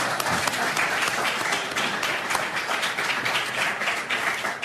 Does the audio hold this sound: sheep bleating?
no